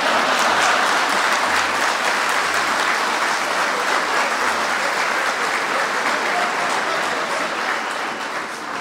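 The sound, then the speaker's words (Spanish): An audience breaks into sustained applause, a dense steady wash of clapping that holds loud for about nine seconds with only a slight easing toward the end. “¡Aplaudo, yo espero!”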